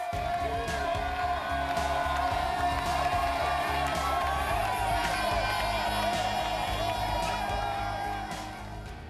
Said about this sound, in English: Don't you want to join them clapping for that, what they had to see the joy of just to be able to go and get a cup of clean, fresh water, know their children are not going to be sick and die a painful, horrible death.